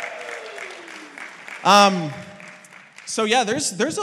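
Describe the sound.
An audience applauds with a steady wash of clapping, while loud whoops and cheering voices rise over it in short bursts.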